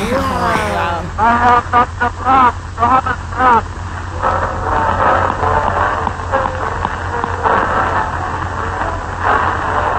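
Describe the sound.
An old, crackly recording: a few seconds of muffled speech, then steady loud hiss that almost completely buries faint, barely discernible music.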